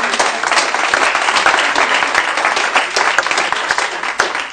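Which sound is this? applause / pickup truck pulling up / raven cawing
applause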